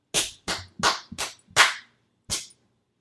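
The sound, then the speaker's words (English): Six sharp hand claps in an uneven rhythm, a quick group of five with varied spacing, then a pause before a final clap. No voices, just bright, crisp slaps of palms. “You just clapped some different rhythms.”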